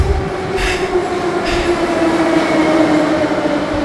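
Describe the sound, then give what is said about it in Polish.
A metro train rumbles steadily through an underground station on line 2 of the Warsaw metro, with a sustained tonal hum, a couple of brief hissing bursts and continuous low mechanical noise, loud, no voices. “W Warszawie, na stacji metra, druga linia.”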